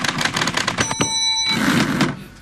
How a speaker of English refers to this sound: Ah, that's a typewriter.